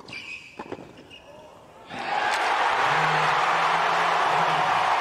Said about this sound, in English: He held the pose. Cue the applause. It's seventh heaven for Rafa in Melbourne.